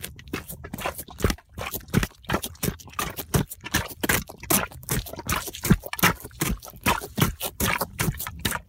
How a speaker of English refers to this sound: That is the sound of me walking in rubber boots after I just got a booter.